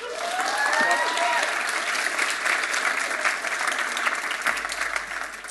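A room full of people claps steadily, a dense wash of applause that holds for several seconds, with a few faint whistles or cheers rising briefly near the start.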